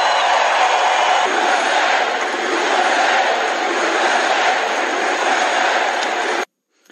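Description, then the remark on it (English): A large capacity crowd outdoors at a US presidential inauguration fills the air with a dense, continuous roar that stays loud and steady for several seconds, then cuts off abruptly into silence; the day is rainy and stormy with intermittent sunshine. “It was a capacity crowd on what was a rainy, stormy day, intermittent sunshine.”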